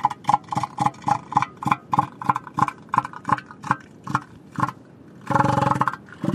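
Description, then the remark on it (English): An elephant seal calls with a rapid, steady train of loud, throaty pulses, ending in a longer sustained guttural burst. No one speaks. “Elephant seals are huge, gray, and blubbery. They have a big snout and a very distinctive voice.”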